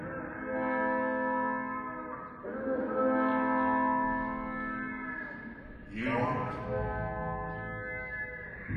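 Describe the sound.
A pedal steel guitar sounds long, sliding, harmonically rich chords that mimic a train whistle, swelling in three sustained blasts of steady loudness with no voices.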